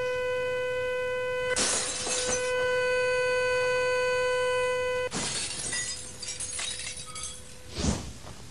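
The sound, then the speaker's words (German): A loud, steady electronic tone hums for several seconds as the volume is raised and its vibrations make a wine glass move more and more through resonance; then the glass bursts apart and the tone cuts out, followed by tinkling shards and one more brief crash. “Drehe ich lauter, wird es zerbrechen.”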